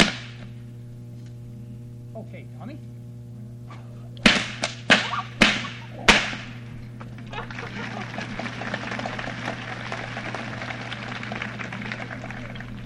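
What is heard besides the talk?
whip cracking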